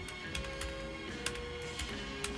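Irregular clicks of keyboard typing, a handful of sharp taps spaced unevenly over a steady low hum, with no voices.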